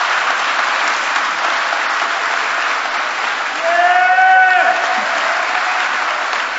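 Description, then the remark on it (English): An audience at an Education Day event claps steadily and densely for several seconds for the young people, the students, with a brief voiced cheer or whoop rising above the applause partway through. “Please give our young people a round of applause.”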